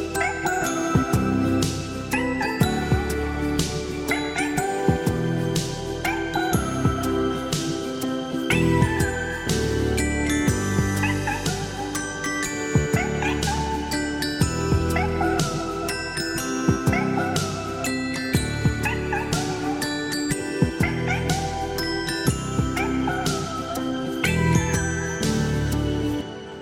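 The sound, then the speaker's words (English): Upbeat, bright mallet-percussion music like a xylophone plays throughout, with animal meows woven into the melody, sounding like cats singing along with the tune. “with … and Xylophone Cats”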